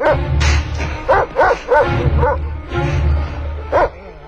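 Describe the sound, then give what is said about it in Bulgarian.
A big dog barks several times in quick, uneven bursts, loud, over a steady low hum. “О, какво, голямо куче?”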